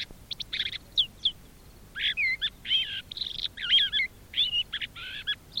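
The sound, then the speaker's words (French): Birds sing in reply to someone's bird-call whistles, in a lively series of high, warbling phrases, one burst after another with short pauses between, clear, with no talking. “Et les oiseaux lui répondent.”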